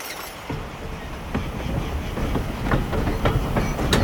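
A train rolls steadily along the rails with a continuous low rumble, punctuated by irregular clacks from the wheels passing over track joints, growing slightly louder toward the end.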